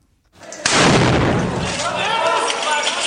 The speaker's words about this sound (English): Here he is describing coming into the city of Homs as an aid worker and then immediately coming under mortar fire.